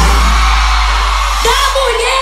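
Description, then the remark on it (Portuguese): A crowd of women shouting and whooping together, a loud, dense burst of cheering over a heavy low rumble, with a few higher cries rising near the end. “Agora eu quero ouvir o grito da mulher que é independente e acha que os direitos são iguais.”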